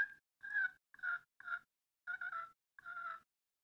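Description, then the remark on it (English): A handheld turkey call makes a series of six short clucks and purring bursts in an uneven rhythm, with brief pauses between them and no talking, played by a person practicing turkey calling. “Again, I'm not the world's greatest turkey caller, and I'm just starting to get my practicing in here. But you can do some clucks.”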